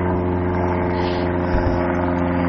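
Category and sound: vehicle, airplane flying overhead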